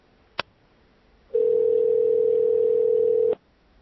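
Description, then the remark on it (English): A sharp click as a telephone call is hung up, then a steady telephone dial tone hums at one unbroken pitch for about two seconds before cutting off abruptly. No one speaks. “Liar, you hung up.”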